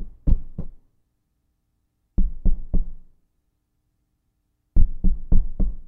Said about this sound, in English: And it just won't get away, does it? It just keeps on happening. Mm. You know who that is knocking on the door of your heart? It's God.